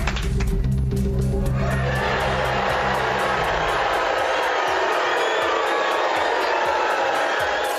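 A large crowd boos loudly and continuously at a contestant being evicted from Big Brother, a dense roar of voices, with low sustained tones droning underneath for the first few seconds.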